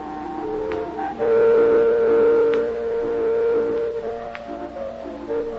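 steam train whistle

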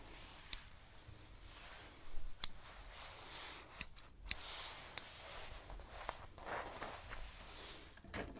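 scissors cutting hair

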